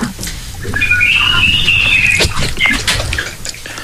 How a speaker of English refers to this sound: There's a lot of birds chirping and stuff going on.